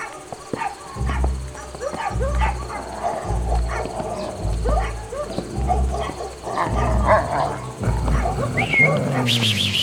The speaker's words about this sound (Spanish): Oiga, hermano, todos los perros nos están ladrando, ¿no le parece muy raro? Pues sí. A mí nunca me había pasado eso.